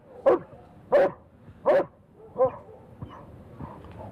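A dog barks four times in a steady, evenly spaced rhythm, fairly loud, then trails off into softer whines and yips.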